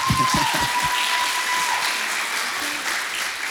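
An audience applauds steadily, a dense wash of many hands clapping at an even, loud level for several seconds, with a few heavier low thumps mixed in at the start.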